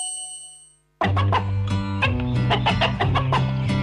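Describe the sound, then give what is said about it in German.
A bright bell-like ding fades out, then rapid, repeated clucks of free-range hens come in over a loud, bouncy musical backing with a steady bass line, in an advertisement for free-range eggs. “Der Toni Bauer macht Putt-Putt und den Hühnern geht's gut-gut.”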